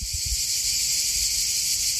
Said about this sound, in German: Andererseits, so Sommer in Albanien, das hat schon auch was mit flirrender Luft und Zikaden, die in kniehohen Sommerwiesen zirpen. Ich habe das sogar aufgenommen, hör mal.